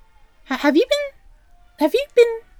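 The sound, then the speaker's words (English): A person voices a few playful meow-like cries, imitating a cat: two rising-and-falling calls, a pause, then two shorter ones, fairly loud with nothing else behind them. “Did you have some of the catnip? I mean, because you're acting a little meow.”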